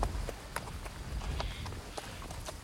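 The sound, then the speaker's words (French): A horse walks at a steady pace through a dry, bare oak wood, its hooves clip-clopping in a regular rhythm over a low, continuous rumble, like a cart rolling along. “Dans le sous-bois sec et nu comme un parquet d'église, inondé de cette lumière blanche qui aveuglait, la marche du cheval faisait tourner lentement de longs rayons noirs.”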